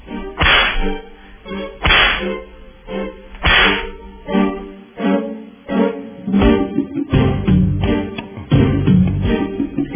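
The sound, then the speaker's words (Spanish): Loud, close whip cracks lash out in a steady rhythm, roughly one each second at first, then come quicker and more tangled toward the end, with no talking. “Vamos, latigazo.”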